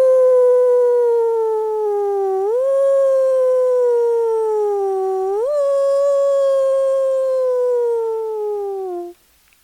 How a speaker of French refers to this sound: Sauf si les coyotes se mettent tous en meute, en levant leur belle gueule à la lune. Ouh!